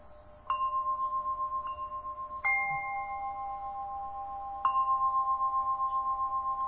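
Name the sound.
tibetan bells ringing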